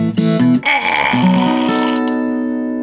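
A voice imitates a burp after a drink from a drink bottle on a hot day: a loud, drawn-out, croaky belch with a bleating, tonal quality that wavers in pitch before trailing off into a steady hum.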